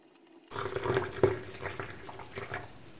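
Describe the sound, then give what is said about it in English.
Hot chocolate pours steadily into a mug, a gurgling stream that starts abruptly and keeps flowing for a few seconds with small splashes and shifts in pitch. “could you pour me some more hot chocolate, please? Absolutely. Pass your mug over.”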